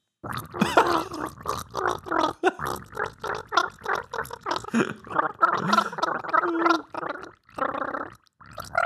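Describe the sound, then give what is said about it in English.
Someone gargles water, the bubbling warble rising and falling in pitch to trace a theme tune, with brief pauses between phrases over about nine seconds. “Gargling our theme music.”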